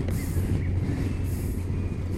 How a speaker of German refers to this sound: Die ersten Meter vom Motorrad. Ah, Gleichgewicht merke ich schon ein bisschen. Die erste Minikurve. Beschleunigung.